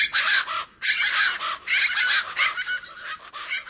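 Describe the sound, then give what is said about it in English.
A chorus of large, chicken-like plain chachalacas shouting loud, harsh, raucous calls, overlapping in rapid rhythmic bursts with almost no pause, dominating the scene with no voices present. “While the large, chicken-like plain chachalaca shouts loud enough to drown out all others.”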